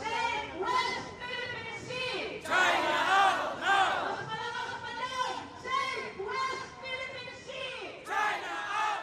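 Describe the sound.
Dozens of protesters chant in unison while waving banners under a harsh sun outside the Chinese consulate in central Manila, protesting China's land reclamation on disputed islands: loud rhythmic shouted phrases repeating in bursts with short pauses between them.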